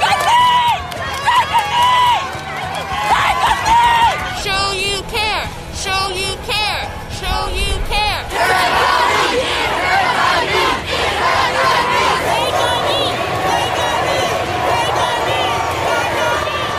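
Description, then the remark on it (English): A large protest crowd in Boston shouts and calls out to police officers, who take a knee. Loud, overlapping voices rise in bursts of chanting and yelling over a steady roar of many people throughout. “Officers, you see here, taking a knee following calls from the crowd.”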